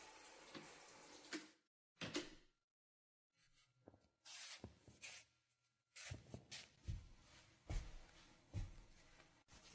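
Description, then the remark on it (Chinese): Water runs and splashes in irregular bursts as a girl bathes and washes her hair, with a couple of brief silent pauses and no talking. “我先关门啦，等我洗完出来再说吧。”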